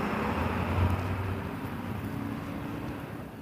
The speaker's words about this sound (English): That was a UPS truck.